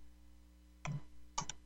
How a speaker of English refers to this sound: Typing this up as we go.